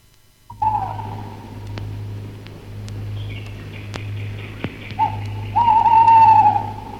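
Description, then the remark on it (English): An owl hoots twice, a short call near the start and a longer, louder one near the end, over a steady low hum with faint clicks between. “Do you remember that sound? Yes, the Night Owl Show”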